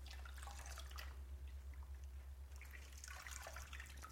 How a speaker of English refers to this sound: So use the sound in itself as a meditation, the sound of running water. Listen. It's relaxing within itself, you see.